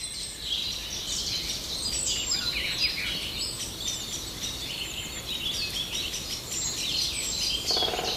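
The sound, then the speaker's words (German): A Eurasian blackbird calls and sings continuously, bright warbling phrases over a steady outdoor background hiss, with no one speaking. “Das ist doch eine Amsel, keine Singdrossel.”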